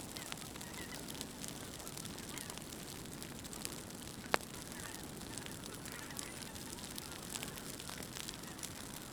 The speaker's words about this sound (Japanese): 辺りを散策していると田んぼの野焼きをしていました。今まで遠くでしか見たことがなかったので、マイクを近づけて録音を試みてみます。